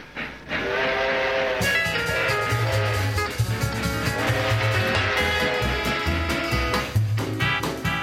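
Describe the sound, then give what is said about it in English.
The 20th Century Limited passenger express train of 1949, which ran daily between New York and Chicago, rumbles steadily along the rails, loud, with rhythmic clacking over the tracks and a bright whistle sounding repeatedly above the heavy low roar. “If you were looking to ride in style in 1949, you couldn't do better than the swanky 20th century limited express train that made a daily run between New York and Chicago.”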